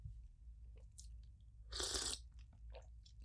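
A single loud slurp of a drink, a wet hissing burst lasting about half a second, surrounded by small mouth clicks over a low steady background hum.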